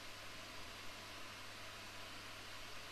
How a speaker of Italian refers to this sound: In questo caso la sorgente sonora emette semplicemente del rumore bianco.